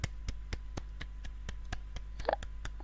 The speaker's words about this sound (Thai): จบแล้วค่ะคุณผู้ฟังปรบมือ